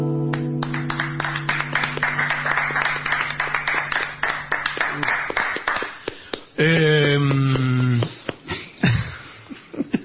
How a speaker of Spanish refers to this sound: maestro se entusiasta y sigue aplaudiendo, muy bien.